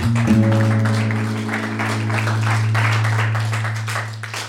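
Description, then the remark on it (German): An audience applauds the first group of presenters, with dense, overlapping clapping, accompanied by a sustained low humming tone throughout. “Vielen lieben Dank und nochmal einen Applaus für die erste Gruppe.”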